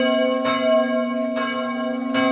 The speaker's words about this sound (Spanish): Era el año 1784 y un sonido nuevo llegaba desde el norte. Luego supe que era una campana.